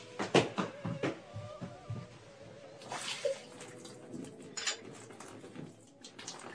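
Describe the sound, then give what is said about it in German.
Tea pours and splashes unevenly for several seconds, with gurgling bursts and light clatter, as it spills over into a bed. No one speaks. “Trinken wir endlich unseren Tee. Ich gieße ein.”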